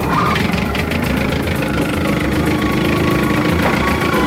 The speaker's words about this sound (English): I can hear him starting up that flat-bottom John boat.